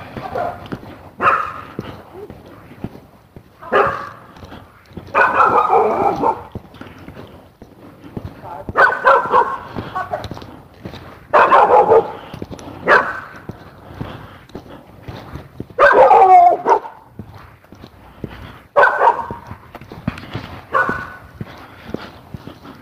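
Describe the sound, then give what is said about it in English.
Dogs bark in repeated loud bursts, several barks at a time with short gaps between, with a bit of voice mixed in. “We have dogs.”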